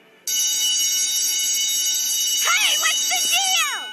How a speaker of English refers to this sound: That's a security alarm.